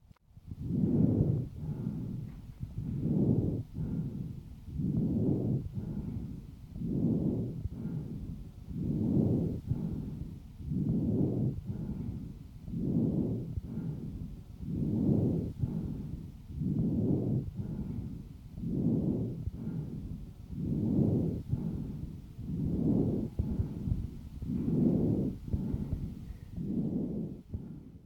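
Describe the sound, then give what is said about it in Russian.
Harsh, rasping breath sounds of a patient with chronic bronchitis, recorded through a stethoscope, rising and falling in a steady rhythm of about sixteen cycles, fairly loud, with no talking. “Прослушайте жесткое дыхание, зарегистрированное у больного с хроническим бронхитом.”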